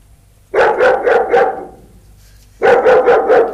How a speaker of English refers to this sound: That was an Alsatian, then.